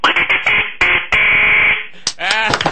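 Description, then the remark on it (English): A duck call blown loudly: a quick run of short, buzzy nasal quacks, then a long drawn-out honk, ending in a few rising squawks. “And of course, the ducks. I've heard them flying over Busch Stadium, and here's what they're quacking at Busch Stadium.”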